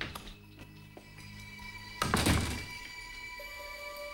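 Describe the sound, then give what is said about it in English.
A kitchen door swings shut as a woman leans against it, with one solid, dull thunk about halfway through, after a few faint clicks, and a low steady hum lingers afterward. “She leans against the kitchen door as she closes it, a smile on her face.”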